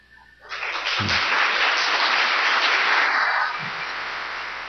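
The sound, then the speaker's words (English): A crowd breaks into steady, dense applause during a church sermon. It starts abruptly, holds loud for a few seconds, then eases slightly while continuing, with no voices over it. “I didn't put a break in here for applause.”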